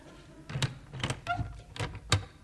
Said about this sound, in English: And close that door. All right. It's not my fault if it accidentally blows open again.